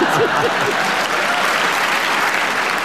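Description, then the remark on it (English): A live audience of the radio panel show Just a Minute breaks into steady, dense applause that fills the whole stretch at an even, fairly loud level, with a faint voice or two briefly audible at the start. “You can witter away so entertainingly that they love it. A round of applause.”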